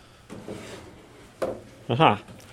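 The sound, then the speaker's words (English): A wooden drawer slides open in a few short, scraping pulls, the last one louder with a creaky, groaning tone, with no talking. “Every single drawer that you see, you can open and you can interrogate.”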